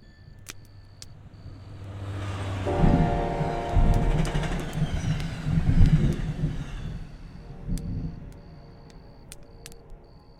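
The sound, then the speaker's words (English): A train rolls past on the tracks, its rumble swelling from quiet to loud and steady with a droning hum, then easing off, with faint metallic clicks at the start and end. “If you put your ear to the railroad track, you can hear the sound of train wheels thundering hundreds of miles away.”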